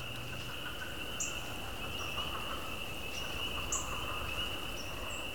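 A dense chorus of spring peepers and leopard frogs on the night of January 29 fills the air with a steady high-pitched drone, punctuated by scattered sharp peeps standing out above the constant background; no one speaks.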